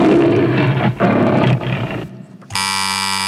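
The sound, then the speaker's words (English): A lion's roar from the Metro-Goldwyn-Mayer film studio intro: three loud, rough growling bursts, a short near-silent gap, then a steady, harsh buzzer tone that holds to the end. “The correct answer is the start of any film made by Metro-Goldwyn-Mayer.”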